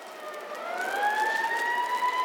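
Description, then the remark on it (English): Police car sirens wail with a rising, sweeping tone, growing slightly louder as they approach, with no voices present; the police cars are headed towards Jefferson Center. “Look, Peter, those police cars are headed towards...”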